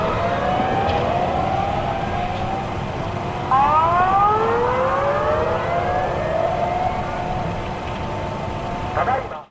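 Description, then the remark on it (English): An emergency warning siren wails continuously in Japan in March 2011, as broadcast live on television during a tsunami that followed an 8.9 magnitude earthquake, its pitch sweeping upward in repeated rising tones over a dense rumble of background noise, loud and sustained throughout. “Sirens and emergency warnings echoed across Japan late last week, live and via NTV television”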